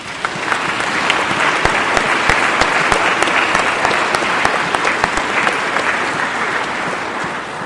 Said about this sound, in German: Und vielleicht dürfen wir jetzt auch mal klatschen.